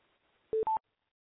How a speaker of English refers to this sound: I heard a beep.